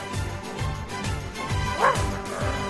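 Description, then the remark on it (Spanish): A dog barks repeatedly in quick, loud bursts, with a higher yelp mixed in partway through; no one speaks. “que tú sí que lo tienes, cariño, que te lo hemos sacado con Berti.”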